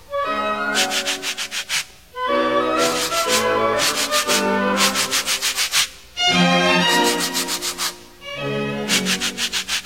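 Sandpaper is rubbed as a musical instrument in quick, rhythmic strokes, keeping time with a lively orchestral tune. The scratchy swishes come in repeated bursts, loud, with no talking.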